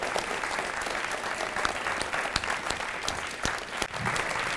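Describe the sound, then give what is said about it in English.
An audience at a storytelling event in Nome applauds its seven storytellers, a steady, dense crackle of many hands with occasional sharper individual claps standing out, sustained at an even level without any voices. “Let's have one more round of applause for all seven of our storytellers.”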